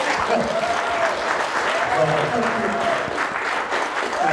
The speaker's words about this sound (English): We are in Los Angeles today. It's a special day. It's a high honor for us to be joined by Her Excellency, the First Lady of the Republic of Kenya, Rachel Ruto. Yes, you can clap.